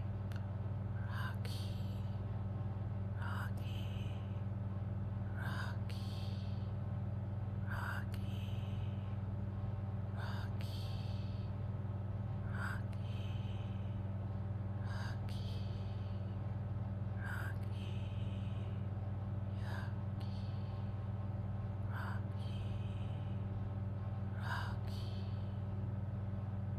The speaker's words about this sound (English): And now with the whisper, breathing in and breathing out